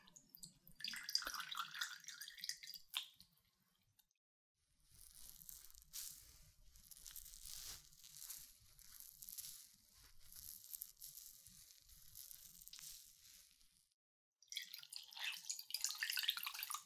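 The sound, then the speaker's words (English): Warm water used for cleaning ears drips and trickles, settling into a soft, steady hissing stream for several seconds, framed by brief crackly, wet sounds at the start and end. No one speaks. “Okay, warm water first to clean.”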